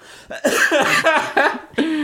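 coughing

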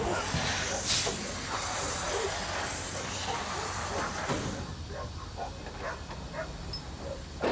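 steam train hissing

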